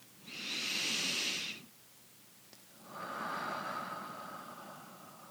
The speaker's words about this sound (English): And as we're breathing out, just leaving all pains and troubles alone and releasing all stress in the body. Breathing in through the nose and out.